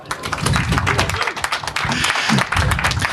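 Steady applause from an audience at the Sendezentrum show stage, welcoming the first speaker, a dense wash of many hands clapping continuously for a few seconds at fairly even loudness, with a faint murmur of voices underneath.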